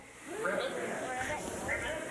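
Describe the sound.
Several voices imitate frogs together, making overlapping croaking and warbling sounds that run steadily for about two seconds at a moderate level.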